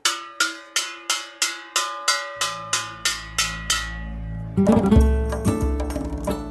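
bell ringing

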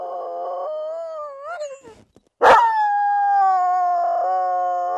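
sled dog howling

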